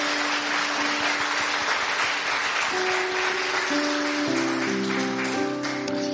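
A crowd applauds Pastor Matt after his message, a dense, even clapping that holds steadily throughout, while soft sustained keyboard chords play underneath and shift a few times.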